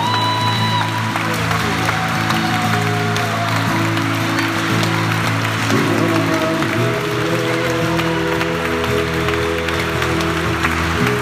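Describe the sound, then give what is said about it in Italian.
A prayer assembly claps steadily and continuously for about eleven seconds in applause to the Holy Spirit, a dense, even patter of applause over sustained, droning keyboard chords that shift pitch partway through. “Un applauso allo Spirito Santo.”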